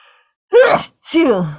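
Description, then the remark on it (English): A single loud sneeze in two quick bursts, a voiced breathy build-up followed at once by a forceful release that trails off, with no talking. “Bless you.”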